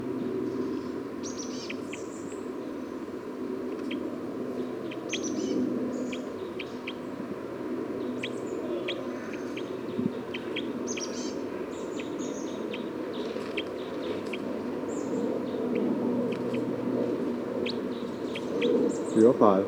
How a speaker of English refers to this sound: Recording bird 305 again.